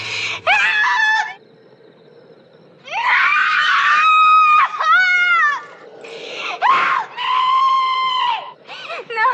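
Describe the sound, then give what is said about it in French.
A woman screams in terror, several long, high-pitched shrieks in bursts with brief pauses, loud, some wavering into wails: Jessica Lange in the scene from the 1976 film King Kong where Kong discovers the young woman offered to him as a sacrifice; Kong's roar is also heard. “Tout comme Favre avant elle, Jessica Lange crie et on entend aussi le rugissement de Kong.”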